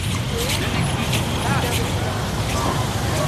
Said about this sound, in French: Il y a beaucoup de trafic sur cette route. Oui, il y a beaucoup de trafic. C'est l'autoroute 277.